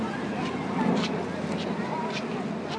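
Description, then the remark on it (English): An airplane passing overhead above the pool deck at Skyline Square in Falls Church, Virginia, in summer: a steady broad roar that holds at an even loudness throughout, with a faint babble of voices of kids swimming in the pool mixed in underneath. “Got an airplane overhead, you got lots of kids swimming in the pool.”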